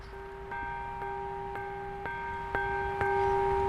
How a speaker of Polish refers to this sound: Na razie tak cichutko, bo pełnym głosem zabrzmi ten dzwon 17 września.